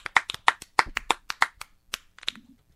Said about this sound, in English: Let's give him a hand.